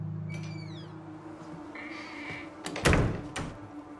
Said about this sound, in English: He looks outside, then gently closes the door.